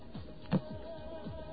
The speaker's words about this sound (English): So let's see what happens when you try to jump the gun a little bit. Let's get our trusty dial tone.